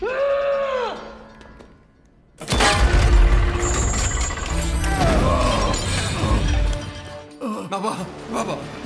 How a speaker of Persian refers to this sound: بابا صدای شلیک بود.